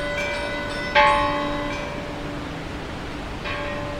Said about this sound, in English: The other churches in the town, such as the chapel of Buen Suceso and San Pedro, also joined in ringing their bells, so all the fishermen could be notified and quickly take to their boats.